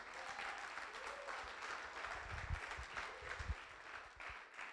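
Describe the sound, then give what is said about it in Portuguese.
A crowd breaks into steady, sustained applause for the Lord, many hands clapping in a dense wash with a few louder thumps and low rumbles mixed in, holding at an even level throughout. “Pode aplaudir o Senhor, porque Ele é bom.”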